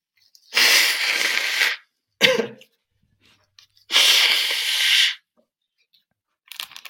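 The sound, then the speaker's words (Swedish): Someone blows their nose twice during a live radio broadcast, loudly. Each blow is a long rough honk lasting about a second, with a quick snuffly sniff in between and nobody talking. “Jag måste bara snyta med det.”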